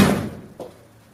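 A door swings shut with a solid thud, followed about half a second later by a softer latch click, heard close by with no voices.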